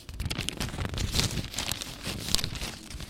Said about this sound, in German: Sie blättern in der Zeitung und surfen im Internet.